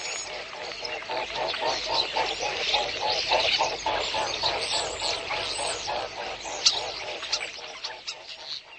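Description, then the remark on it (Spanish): Swans calling in a steady stream of quick, nasal honks, several birds overlapping in a busy rhythm that runs the whole time at a moderate level, with no talking. “Hemos escuchado el graznido de un cisne”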